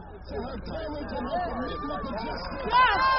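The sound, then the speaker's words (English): A crowd of demonstrators marching for hours around Baltimore, protesting alleged police brutality, murmurs and chatters all at once, a steady babble of many overlapping voices with occasional louder calls rising above the hubbub, continuous. “hands and voices raised, demonstrators march for hours around Baltimore.”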